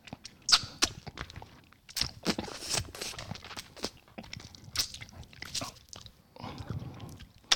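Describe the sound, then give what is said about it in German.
Loud crunching and biting of a hard candy lollipop, with sharp cracking bursts and grinding chews in an irregular rhythm, no talking. “Wir müssen mal irgendwann eine Folge machen, wo wir einfach nur Viertelstunde lang nur lutschen, knuspern, knabbern und nichts sagen.”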